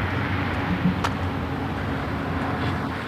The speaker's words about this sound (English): Okay, where are all these cars going here?